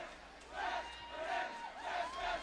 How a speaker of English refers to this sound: So 1-0 Warriors, and the Warrior fans off to my right making some noise. The Warrior student section. Huge crowd from Eau Claire, I got to say that.